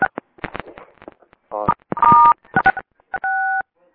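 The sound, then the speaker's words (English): Two short, steady telephone keypad tones, a star then a six, pressed to mute the caller's background, cut through a crackly line with bursts of clicks and muffled voice-like sounds between them. “Could we ask everyone to *6, please, who's listening right now, so that we can mute your background?”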